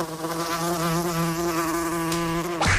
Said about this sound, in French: ces premiers moustiques mutants qu'on entend vont nous poser une nuée de questions.